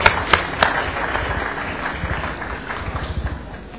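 A round of applause from a group: dense, steady clapping with a few sharper claps at the start, moderately loud and sustained for several seconds with no talking over it.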